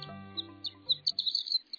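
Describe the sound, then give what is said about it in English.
A high, tinkling song of a male horned lark, quick bright notes rising and flickering in a rapid run, heard alone and fairly clear over a faint low hum, as the bird hovers about 100 feet in the air over an open landscape of short grasses. “A high-pitched, tinkling bird song rings across an open landscape of short grasses.”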